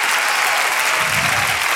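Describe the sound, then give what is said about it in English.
An audience claps hands together in dense, continuous applause, steady and loud throughout, with a low murmur of voices rising underneath partway through. “You should stand up and clap your hands and shout like he's able to do. Keep on clapping.”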